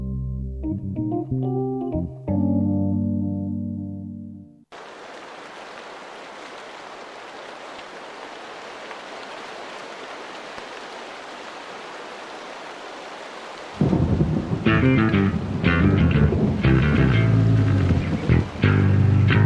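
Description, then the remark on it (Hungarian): A steady, dense rush of heavy rain storm lasting several seconds, even and continuous with no distinct thunderclaps, framed by music before and after. “Süvölt az ivatar a felhős ég alatt. A tél ikerfia, eső és hó szakad.”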